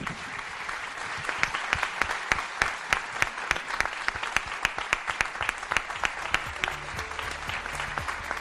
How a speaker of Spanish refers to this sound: Y por favor, que el último aplauso de este programa especial 65 aniversario sea para los oyentes.